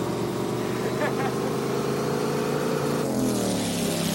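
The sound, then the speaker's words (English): A steady, loud boat engine drones throughout, a low rumbling motor with dense harmonics that shifts pitch slightly near the end. “Stop the boat, idiot. Stop the boat.”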